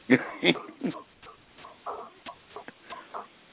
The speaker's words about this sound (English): Is that a dog I hear in the background? Yeah, my golden retriever's here.